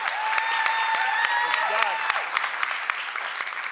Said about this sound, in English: First of all, I'm going to applaud for that. God bless you for doing that, and those Protestant ministers.